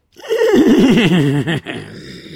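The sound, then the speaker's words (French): A person imitates a horse's whinny with one loud, wavering vocal call that quavers downward in rapid pulses, then trails off into a breathy, fading tail. “Quand on convoque ce sens-là à propos des chevaux, on pense d'abord au hennissement. Vous savez, hennir ?”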